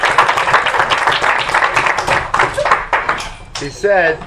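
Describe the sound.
A group claps steadily for about three and a half seconds, a dense, even patter of many hands. As it fades, a voice starts speaking over the last scattered claps.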